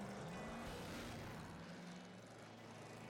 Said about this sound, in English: And now we're going to end as we began, with a car driving around the desert.